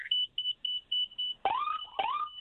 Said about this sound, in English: All right, are you parked right now? Yeah, I'm parked. Can you put the siren on without breaking any rules? Yeah, I could do that.